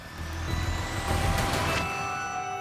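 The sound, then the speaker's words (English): An ambulance pulls up at a crime scene in Arlington where a body had been found, with a deep, steady engine rumble and faint high whining tones, then a couple of sharp hissing bursts of air brakes midway before the engine settles. No voices. “Archival footage of an ambulance arriving on the crime scene.”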